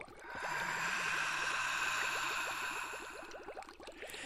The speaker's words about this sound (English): Listen to the bubbles. The bubbles?